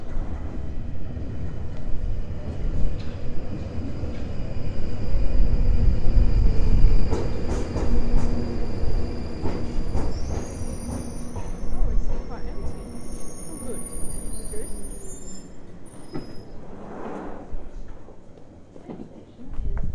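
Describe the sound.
A passenger train rumbles loudly and steadily along the rails, with metallic clatter, a few sharp clicks and thin high-pitched squeals, while faint voices murmur underneath.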